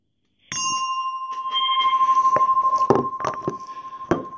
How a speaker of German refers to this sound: Und die Meditation beginnt immer mit dem Gong und hört mit dem Gong dann auf.